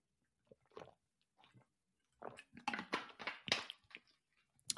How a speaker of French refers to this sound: Je prends une petite gorgée quand même.